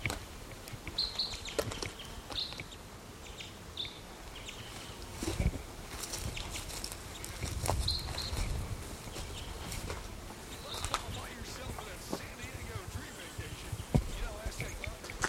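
A male crossbill, the mate of a female, calls from a tree with short, sharp chirps repeated every second or so, fairly faint over a steady background of rustling and low thumps.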